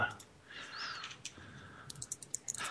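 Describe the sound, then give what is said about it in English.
A quick flurry of light, high-pitched clicks and rattles as very tiny new dice are rolled, tumbling across a hard surface, comes in a short burst near the end after a quiet stretch. “I have new dice. Really, really tiny ones. They sound tiny.”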